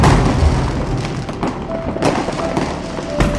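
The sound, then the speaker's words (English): Fireworks and explosions go off outside, a few sharp cracks and booms at irregular intervals over a constant loud, muffled rumble, with a faint whistling tone threading through. “All of the noise from these explosions and fireworks outside seems to have scared the dragon away for good!”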